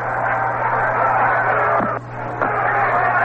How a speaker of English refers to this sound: Trying to push one down the first base line, and of course, the crowd is whooping it up now.